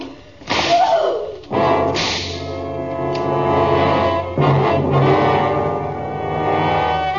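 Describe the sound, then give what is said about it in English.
Three sharp, loud whip lashes crack at uneven intervals, each cutting through a sustained swell of dramatic music that keeps playing between the strikes. “No use, whip.”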